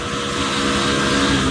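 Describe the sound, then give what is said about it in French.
A scooter engine drones steadily as someone rides it to class, loud, with a continuous buzzing hum and rushing wind noise throughout, no voices. “Vous allez juste en cours sur votre scooter.”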